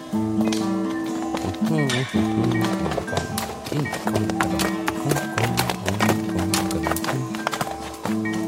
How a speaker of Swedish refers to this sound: En man på häst rider förbi.